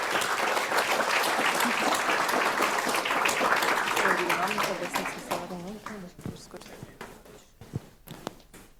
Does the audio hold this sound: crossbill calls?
no